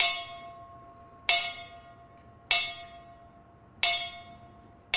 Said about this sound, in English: Bells signaling the last call were played in honor of 20 Texas firefighters and 106 around the country who died last year.